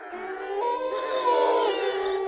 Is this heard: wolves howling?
yes